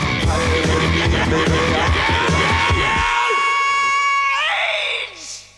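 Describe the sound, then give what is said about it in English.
The recorded screams of an Australian TV program intro: a loud, chaotic burst of pounding noise and crowd-like clamor gives way to a long, sustained high scream that holds steady, then climbs sharply in pitch before cutting off. “Those unique screams became part of the fabric of Aussie TV.”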